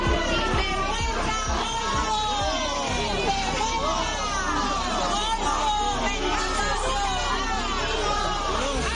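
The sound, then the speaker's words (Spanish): A crowd of several dozen members of victims' associations shouts "murderers" (asesinos) at people arriving at an entrance, in loud, overlapping, angry cries, a continuous dense roar of raised voices throughout with no pause. “gritos de asesinos”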